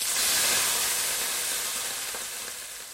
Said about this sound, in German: Butter in die Pfanne, einen Löffel Teig rein und los geht's.